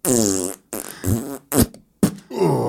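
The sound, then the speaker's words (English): A person's mouth imitates farting: about five loud, sputtering bursts of varying length, some buzzy and drawn out, others short and sharp, separated by brief gaps. “So you're just farting and if I'm taking a shit, you're going to hear some farts, right?”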